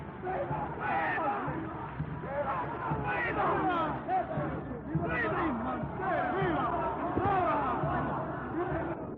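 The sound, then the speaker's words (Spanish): A large crowd at a procession sings a sevillana in honor of the Blanca Paloma, singing along and applauding together in loud, overlapping voices, a dense and continuous chorus that fills the whole stretch with little pause, energetic and festive. “Sevillana en honor de la Blanca Paloma, que es coreada y aplaudida por todos.”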